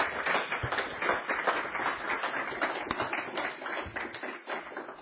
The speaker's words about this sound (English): Please give him a warm round of applause to welcome him.